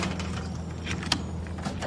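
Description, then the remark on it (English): A front door opens with a short click and a soft scraping sweep, set against a steady low hum. “Sadie opens the front door, and Squealer follows her in.”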